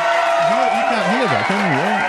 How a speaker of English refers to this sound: You can hear the cheering. It's not real. It's off of YouTube.